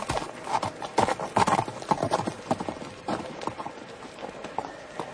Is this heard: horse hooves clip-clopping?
yes